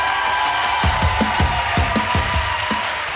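A live audience applauds and cheers, a dense, steady wash of clapping filling the whole moment, with a run of rhythmic low thumps underneath, like stomping or beats.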